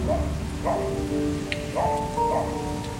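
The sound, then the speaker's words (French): Heavy rain pours down in a dense, continuous hiss that fills the whole stretch, while a few short tonal cries, somewhat like barks, break through the downpour. “À 21h, le 13 avril, il part pour la prison sous une pluie battante.”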